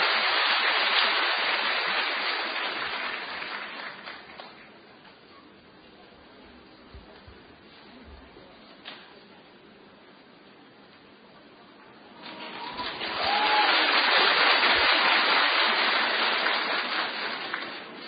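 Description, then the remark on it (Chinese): Dense, crackling audience applause welcoming a fellow practitioner from Zhejiang to share her story fills the opening seconds and fades away, then after a quieter lull a second burst of clapping swells up and carries on loudly to the end. “今天现身说法，弘法度人，让我们掌声欢迎。”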